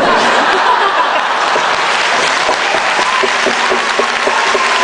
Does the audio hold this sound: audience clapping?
yes